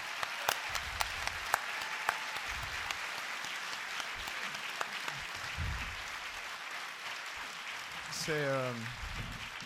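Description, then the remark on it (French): An audience at a gathering claps steadily for about ten seconds for the small organizing team, a dense, even patter of many hands, with a single voice briefly whooping near the end as the clapping swells. “Vous savez que c'est un rassemblement qui est fait par une petite équipe, mais costaud, donc peut-être qu'on peut les applaudir.”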